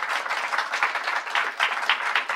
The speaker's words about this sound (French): On peut l'applaudir. Merci.